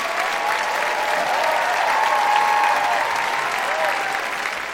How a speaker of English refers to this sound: I want to thank both of you for being here, and I want to have this audience applaud Sonam Obsession, Matt Gourley. Let's hear it for them.